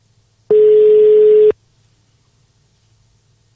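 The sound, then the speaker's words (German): A telephone ringback tone sounds once while a call is placed from a mobile phone: a steady, clear one-second beep on the outgoing call, followed by quiet line hiss and a brief click at the very end. “Und wo ich doch mein Handy hier habe”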